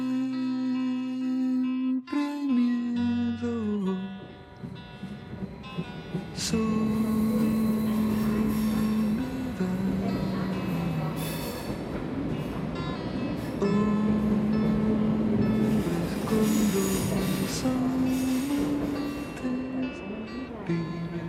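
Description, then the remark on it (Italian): A train travelling to Bern, Switzerland, rumbles steadily along the rails, with long, shrill wheel squeals rising and falling over the continuous rolling noise. The sound is fairly loud throughout. “Durante il viaggio in treno sfoglio”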